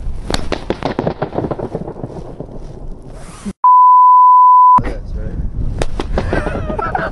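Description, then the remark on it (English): Rapid, loud balloon pops ring out in a dense cluster with a reverberant echo, broken in the middle by a steady high-pitched beep lasting about a second before more popping resumes. “Right, balloons. Let's do it.”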